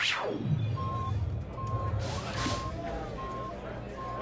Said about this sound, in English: If that alarms what I think it is, we're going to have a lot of people looking for a lift.